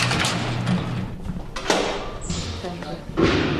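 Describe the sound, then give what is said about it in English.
A heavy prison sally port door at Pelican Bay, a supermax prison in the far north of California, clangs shut with a loud, echoing slam, followed by another metallic thud a moment later, while muffled voices murmur in the background. “I have to get through 11 locked doors and sally ports just to interview him.”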